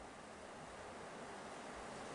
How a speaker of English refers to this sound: I mean, especially the weather at our monastery is the most unpredictable weather possible. You hear heavy rain now, in 2 minutes it's going to clear out, and then another 5 minutes, it's going to rain very heavily again.